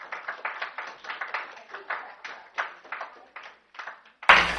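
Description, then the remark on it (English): Several people at a school board meeting clap together in an uneven, steady patter of sharp hand claps for about four seconds, ending with a sudden loud thump. “All right, people, I'm going to clap for them.”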